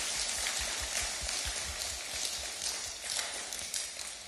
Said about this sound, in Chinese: 让我们给牧师和他的家人真的一个大大的掌声。